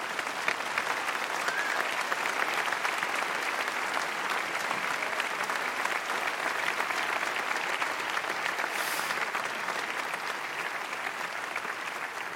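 Warm, sustained applause from an audience, a steady dense wash of clapping that holds at an even level for the whole stretch without any talking over it.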